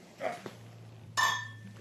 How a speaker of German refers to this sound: Ja, ja, ich würde sagen, wir stoßen mal an.